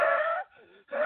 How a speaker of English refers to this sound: Front door to the medical clinic where I punch in, where I proceed to wheeze. Literally wheeze. I sound like this.